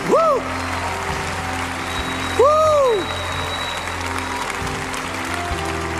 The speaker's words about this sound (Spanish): Vengan, vengan. Sigan aplaudiendo, iglesia. Cuando la iglesia aplaude, las cadenas se rompen.